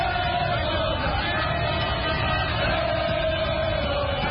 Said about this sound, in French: Une foule de supporters aux couleurs vert, jaune, rouge du drapeau national a de nouveau déferlé dans les rues. Objectif, saluer les champions d'Afrique à leur manière. Parade de centaines de mototaxis. Concert de klaxons. Chants de supporters.